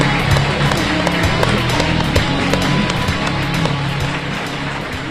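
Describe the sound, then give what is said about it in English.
A crowd applauds steadily, a dense crackle of many hands clapping at once, holding an even, fairly loud level for several seconds with a low murmur of voices beneath. “So give this guy a round of applause.”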